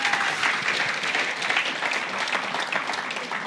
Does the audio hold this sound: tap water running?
no